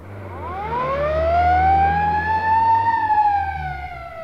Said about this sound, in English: It's the ambulance. Stand back, please. The ambulance is coming.